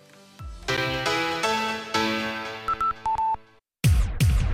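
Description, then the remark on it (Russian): A comedian imitates a telephone in a New Year stage performance: sustained buzzy tones, a series of short beeping dial-like pips, a brief pause, then two quick falling swoops, all loud. “Давайте послушаем короткий кусочек его новогоднего выступления в образе телефонного аппарата.”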